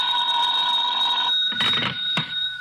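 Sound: telephone bell ringing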